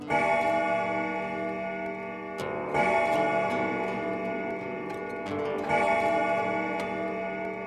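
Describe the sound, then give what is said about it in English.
A grandfather clock strikes the hour with deep, resonant chimes, three slow strokes each ringing out and lingering, while its steady ticking continues beneath. No voices are heard. “Rubbing the sleep from his eyes, the hour shook from the great-grandfather clock.”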